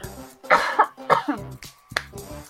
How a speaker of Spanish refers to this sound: Perdón. Empiezo otra vez. Sí, estás a tiempo. Me ha venido la tos.